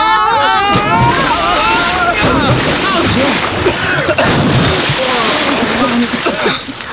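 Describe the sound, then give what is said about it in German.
A loud, heavy splash as three bodies, washed out of a rock tunnel, hit the sea, followed by churning, sloshing water that keeps going for several seconds, with excited voices and shouts mixed in. “Mit einem mächtigen Klatscher landeten alle drei im Meer.”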